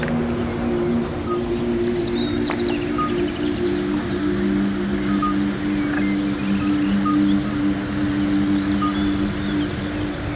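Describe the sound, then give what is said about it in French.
Toads croak on the banks of a lake ringed by conifers in a steady, unbroken low trill that hums on throughout. A few faint, brief bird chirps are scattered above, and no one talks. “Et sur les berges, on entend croasser, mais aussi le son caractéristique, très reposant des crapauds.”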